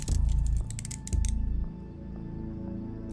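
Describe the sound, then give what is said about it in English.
Handcuffs ratcheting shut as a man uncuffs himself and then cuffs another man: two quick bursts of crisp metallic clicking, each about half a second long, followed by a quiet low hum with no voices. “Nick uncuffs himself, then cuffs Marco.”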